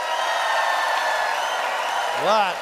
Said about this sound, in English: It is up to you to decide, audience, by applause, who thinks that Eric's pro-nature program points were perfect. Eric Peterson.